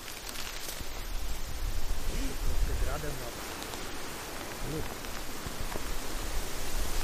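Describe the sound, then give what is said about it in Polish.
Steady rain patters down in a forest, a dense, even hiss with no breaks, its scattered drops running together. A faint voice murmurs briefly under the downpour. “No i mamy zmianę, pogoda zmieniła się. I dzięki Bogu, że pada.”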